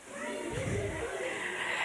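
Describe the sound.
Voices imitate baby frogs with a high, breathy, squeaky sound that runs steadily for about two seconds at an even loudness, with no clear pauses.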